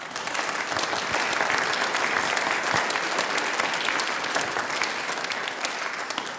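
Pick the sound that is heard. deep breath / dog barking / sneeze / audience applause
audience applause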